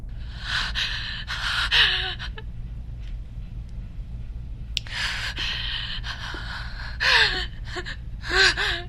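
Heavy, ragged breathing comes in loud gasping bursts, some with a strained voiced edge, separated by brief pauses over a steady low hum.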